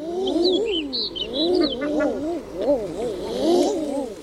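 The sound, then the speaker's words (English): Common eiders give repeated low, crooning "ah-ooo" calls that rise and fall in overlapping waves, with a few faint higher bird chirps sounding above them. “So, female eiders appear to act differently toward close relatives.”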